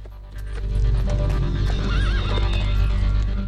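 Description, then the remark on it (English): The horses of Sindel and Shao Kahn neigh with a wavering whinny while hooves clip-clop on hard ground and come to a stop, fairly loud over a low rumbling background hum. No one speaks. “Sindel and Shao Kahn stop their horses and look over at them.”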